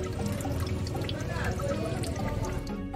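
Water drips and trickles steadily through a tiny hole in the bottom of a clay pot into a smaller pot below, a continuous wet patter at a fairly even loudness for the whole stretch, with a low murmur underneath.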